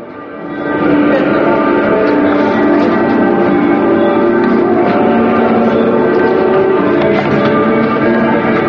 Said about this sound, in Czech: I dok su u Srbiji odjekivala crkvena zvona, u hramu Svetog Save na molebanu za Kosovo okupilo se svega 100 ljudi.